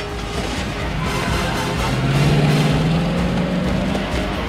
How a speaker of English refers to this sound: Mike, Marcus, and Julie speed off in the truck that's full of explosives.